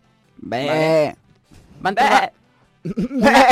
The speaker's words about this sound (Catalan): És una cabra penjada d'uns cables... Què? O sigui, a sobre d'uns cables,